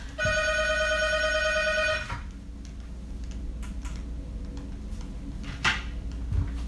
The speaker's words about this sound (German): jetzt läutet gerade das Telefon. Ich hänge das jetzt einmal ab.